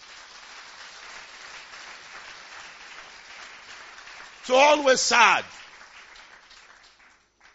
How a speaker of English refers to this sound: You have more than enough to give thanks to the Almighty God. Give him a clap offering.